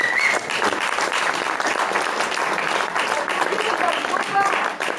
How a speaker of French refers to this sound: Et j'aimerais qu'on les applaudisse.